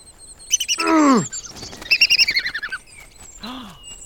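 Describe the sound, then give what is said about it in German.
A bird flying in to snatch a nut in a dark forest chirps: a loud downward-sweeping call, then a quick run of bright, rhythmic tweets and one last short chirp, with no voices. “Aber als sie die Nuss aufheben wollte, kam ein Vogel angeflogen und schnappte sie ihr vor der Nase weg.”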